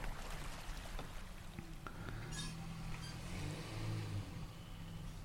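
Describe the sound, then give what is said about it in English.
A car engine rumbles steadily, its low hum rising and shifting as the house owners' car arrives back at the house and slows, with faint outdoor background noise and no talking. “I hope they take the car into that garage and take a different exit entrance.”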